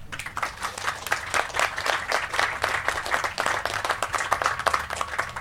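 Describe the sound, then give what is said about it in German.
An audience applauds a guest introduced as a publicist, Slavist, politician and Volksstimme editor, with many hands clapping in a dense, continuous patter at a fairly even level from start to finish. No one speaks over it. “Einen Applaus”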